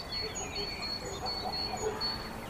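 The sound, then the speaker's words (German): A dog barks far off at one of the scattered farmsteads among the vineyards, a few faint, short yaps in the second half, over a quiet outdoor background with steady high-pitched whistling tones. “In der Ferne schlägt ein Hund an, in einem der verstreut liegenden Gehöfte inmitten der Weinberge.”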